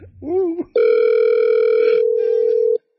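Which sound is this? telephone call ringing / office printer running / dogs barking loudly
telephone call ringing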